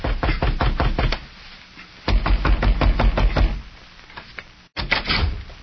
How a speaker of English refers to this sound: It was almost 2 weeks later when a young girl in Bedford, Texas, had a knock at the front door of her home.